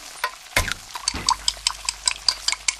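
Busy kitchen clatter: dishes and utensils clink and scrape in quick, irregular bursts, with a louder clank near the start and a low hum underneath. No voices.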